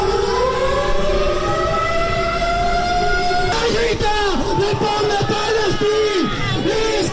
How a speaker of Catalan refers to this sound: Aquesta és la simulació, com heu sentit, de les sirenes que d'ençà de fa 2 anys sonen a la franja per advertir la població de bombardejos.